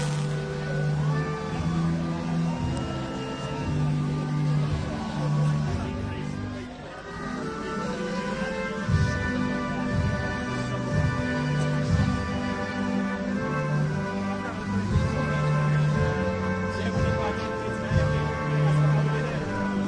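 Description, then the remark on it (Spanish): A band plays the British national anthem, God Save the Queen, on the Champs-Élysées at the Tour de France podium ceremony in honour of Chris Froome, a slow, stately melody of sustained brass-like chords that change steadily, holding an even, fairly loud level throughout. “Suena el Good Save the Queen en los Campos Elíseos por tercera vez en honor de Chris Froome.”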